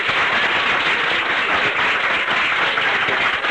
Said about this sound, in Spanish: Venga, un aplauso, hombre, venga.